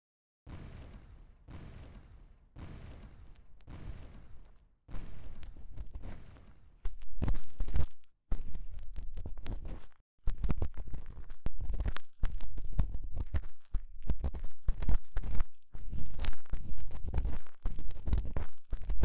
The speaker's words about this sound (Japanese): コメント欄の反応を見るに、ちゃんといつもみたいな音が出せてそう。足音うるさくない？もういろいろ踏みつけすぎて、何の音かわからなくなっちゃって。